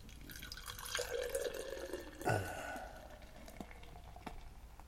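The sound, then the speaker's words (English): Pilsner beer is poured into a glass, a soft steady trickle and fizz with a brief louder glug near the middle, fading to quiet dripping and bubbling. “All right, we're going to pour.”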